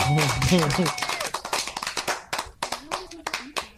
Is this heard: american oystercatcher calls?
no